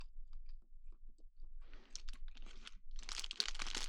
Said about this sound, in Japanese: じゃあ黙って食べるので、咀嚼音が好きな人用にここら辺で食べます。でも嫌いな人は早送りしてください。もっと鮭が欲しい。